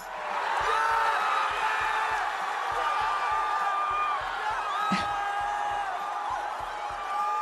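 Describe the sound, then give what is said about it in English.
A huge college football stadium crowd cheers in a loud, unbroken roar for several seconds after a cat that fell from the stands is caught by fans in an American flag and revealed to be okay, with high whoops and shouts above it and a steady, regular low thumping underneath. “Cat rescue quickly overtook football as everyone in the stadium's favorite sport, with the crowd responding like this when the animal was revealed to be okay.”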